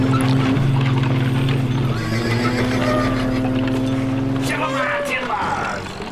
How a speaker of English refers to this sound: Setting, Portland, Oregon, circa 1888. Scene 1, almost dawn. The captain and the first mate are on the deck of the Flying Prince, a trade ship docked at Portland waterfront. Sounds of foghorns and late 19th century Portland urban noises.